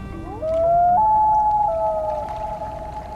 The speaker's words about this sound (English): To hear a common loon in the wild during the summer, you'll need to find a northern freshwater lake where a pair is nesting. But to find that same common loon in winter, you'll likely need to look on a saltwater bay.